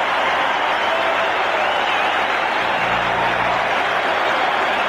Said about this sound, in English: He was so loved in Toronto, so loved, that this was the ovation he received at Maple Leaf Gardens when he played for Team Sweden in the 1976 Canada Cup. You can hear the applause here at Maple Leaf Gardens for Boreas Holman. Many are standing.